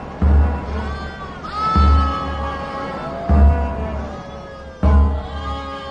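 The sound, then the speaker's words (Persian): Sheep bleat repeatedly in a loose rhythm, four wavering calls in a row, fairly loud, over a low rumbling background, heard at night in the dark. “در تاریکی شب فانوس به دست راه میره، صدای گوسفندا رو میشنوه اما اونا رو نمیبینه.”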